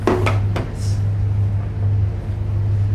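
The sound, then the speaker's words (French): A cargo ship's engine rumbles with a steady, deep droning hum throughout as the container-loaded ship casts off and departs, while a few sharp clanks and knocks sound in the first half-second. No one speaks. “Ça y est, le dernier conteneur a été mis, donc on va pouvoir appareiller, donc effectuer le départ du bateau.”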